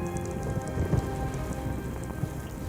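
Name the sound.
heavy rain falling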